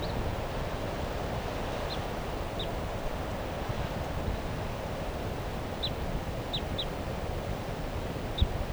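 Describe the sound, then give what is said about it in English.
Short, high chirping calls from a wild bird in the treetops of a tall fir tree just above a car ring out intermittently, about six of them, over a steady roar of wind and low rumbling noise outdoors, with no one talking. “That bird 377 I think is still here calling from the treetops just above the car.”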